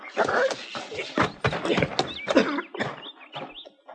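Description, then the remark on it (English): A horse whinnies in short bursts while its hooves clop and shuffle on the ground in an uneven rhythm, with no voices. “Get off your horse.”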